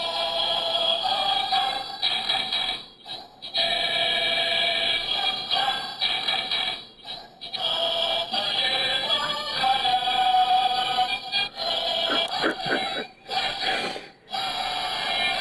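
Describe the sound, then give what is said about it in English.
A novelty Barcelona Football Club alarm clock, a souvenir from Barcelona, blares a tinny, march-like electronic tune, bright buzzy tones stepping through a melody with short pauses between phrases, loud with no talking. “It's the Barcelona Football Club alarm clock, and this is what I wake up to whenever I have my alarm.”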